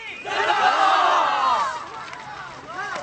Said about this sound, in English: On November 13, 2001, All Things Considered broadcast this report, describing how several hundred Alliance fighters in green uniforms broke through the checkpoint with a cheer.